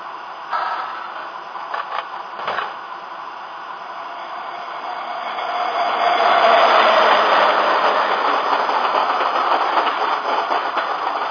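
A train rumbles past on the rails, its roar building steadily to a loud peak midway and staying strong with faint clattering, no voices heard.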